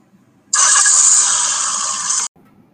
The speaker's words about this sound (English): How should we start the engine? I can hotwire it.